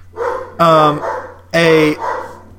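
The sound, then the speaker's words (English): Two loud, drawn-out dog barks ring out about a second apart, with murmuring voices and a steady low hum underneath. “Shut up, dogs.”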